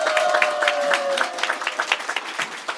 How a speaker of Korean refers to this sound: 다시 한번 큰 박수 부탁드립니다.